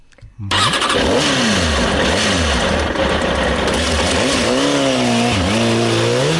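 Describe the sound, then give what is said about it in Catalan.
A car engine roars to life and is revved repeatedly, its pitch swooping up and down in loud surges before climbing higher near the end. “Ostres, que engego!”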